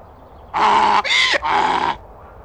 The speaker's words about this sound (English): Is it a horse? No, it isn't. What is it? It is a donkey.